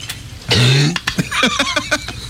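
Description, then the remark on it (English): A loud fit of coughing from a tickle in the throat: one harsh, throaty cough followed by a quick string of shorter, sharper coughs, with no talking. “Sorry, it was just a tickle, and you know that's the worst.”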